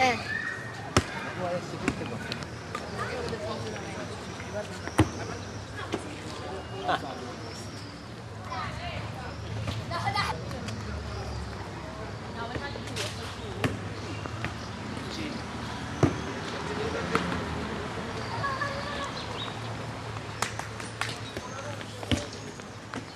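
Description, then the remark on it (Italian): A ball thrown hard slams against a floor again and again at an irregular pace, each bounce a sharp smack, with indistinct voices and background noise throughout. “Quando tu tiri il pallone forte si sente quel il suono.”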